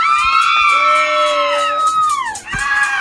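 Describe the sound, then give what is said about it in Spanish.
A group of young women fans shrieking for a band in high-pitched voices, several screams overlapping loudly and continuously, breaking off briefly near the end before starting up again. “Ahí vienen las chicas que van a gritar por la banda.”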